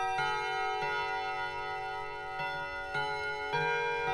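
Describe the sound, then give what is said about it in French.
A clock's Westminster chime rings out at five o'clock: five bright bell-like notes struck at an uneven pace, each one ringing on and blending into a sustained, shimmering tone with no voices. “Alors, c'est le carillon Westminster.”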